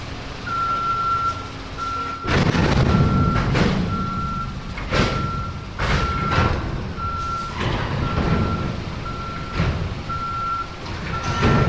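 A truck's reversing alarm beeps steadily in an even rhythm over a heavy diesel rumble at a busy container port, broken by loud bursts of clanking and hissing as a 12-story crane lifts 30-ton containers off a ship onto waiting trucks.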